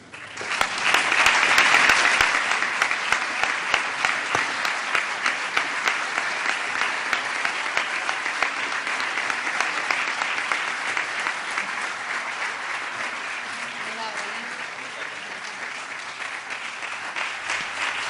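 A large audience at the solemn closing ceremony of the 2017-2018 academic year applauds steadily for the whole stretch, a dense wash of clapping that swells at the start and then holds, fading slightly toward the end with no voices over it.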